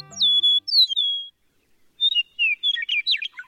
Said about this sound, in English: With their bright yellow breasts and superlative songs, meadowlarks are among our most familiar and cherished birds. The eastern meadowlark's clear whistled music is the unmistakable anthem of eastern North America's farmlands and open country.